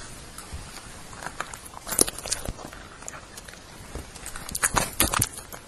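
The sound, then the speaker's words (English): Dogs crunching on biscuits, a stream of sharp, irregular cracks and crunches, with busier bursts around the second and fifth seconds. No one speaks. “I thought you'd like to hear the dogs chewing biscuits.”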